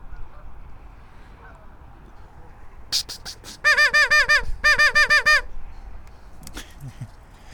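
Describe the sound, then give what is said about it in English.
Ducks quack loudly in a rapid run of about ten nasal calls, grouped in two bursts after a few sharper squawks, as a couple of ducks chase each other around and splash, with quiet outdoor background before and after. “There's some kind of ducky confrontation going on over there.”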